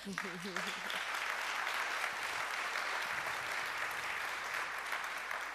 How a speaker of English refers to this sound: So, give her a warm applause for that.